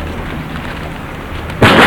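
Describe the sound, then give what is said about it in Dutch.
Steady rumbling background noise, then near the end a sudden loud, heavy thud, like a forceful kick against a door during the eviction of a squatted building, booming. “Probeer hem eens te trappen hier.”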